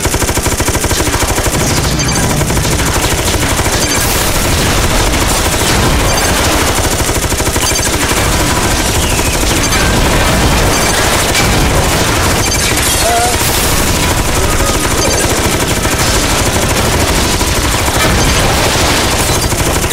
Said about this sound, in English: I've disarmed all other weapons and set things so that the gun will operate at maximum performance. You can quickly spray your gunfire forward and back.